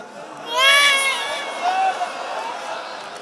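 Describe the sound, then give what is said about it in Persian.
A thirsty baby cries: one strained, high wail swells up and then trails off into softer, uneven whimpering over a few seconds. “تو بازم تشنه خوابت برده اما داره گریه میکنی.”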